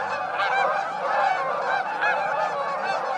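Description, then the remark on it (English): A flock of migrating Canada geese, returning from nesting in Canada and Alaska, honks continuously overhead, many overlapping nasal calls blending into a steady, moderately loud chorus with no voices. “The migrating Canada geese heard here are returning from nesting in Canada and Alaska.”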